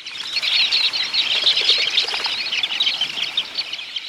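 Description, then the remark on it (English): A large flock of dunlins, small sandpipers, takes flight, a dense, steady rush of high twittering calls mixed with whirring wingbeats, loud for about four seconds with no voices. “When threatened by a falcon, for instance, dunlins take to the air, flying so close together that it's hard for a predator to capture one.”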